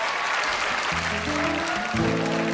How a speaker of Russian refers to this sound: подошли бурные и продолжительные аплодисменты еще раз, если можно.